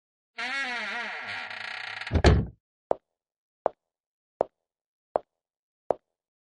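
A door creaks as it swings and shuts with a solid thud, followed by five evenly spaced sharp taps, like footsteps, in otherwise quiet surroundings.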